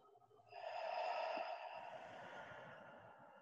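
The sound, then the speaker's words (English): A deep breath drawn sharply in through the nose, then released in a long, softer exhale through the mouth, as part of a prana breathing exercise, with no talking. “Begin to do some prana breathing if that's good for you, in through your nose and out through your mouth.”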